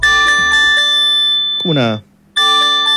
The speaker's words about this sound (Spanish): Bueno, esto es para sismos. Esto es para sismos, mira, acá está. Alerta, y acá dice, mira una demostración.